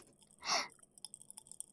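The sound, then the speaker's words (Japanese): A soft, wet chewing burst, then a quick run of sharp, tiny crackles and pops as ramune-flavored popping candy fizzes in the mouth, quiet and uneven in rhythm, with no talking. “パチパチするやつもあるよ。”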